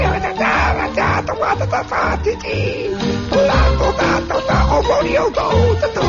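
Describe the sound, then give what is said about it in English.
Tinny, nasal music playing through the very bad loudspeaker of an authentically styled gramophone reproducing the sound of the early 1900s, thin and boxy with no crisp highs, running steadily and fairly loud for the whole stretch. “This authentically styled gramophone reproduces the sound and the mood of the early 1900s. That means it's got a very bad loudspeaker in it.”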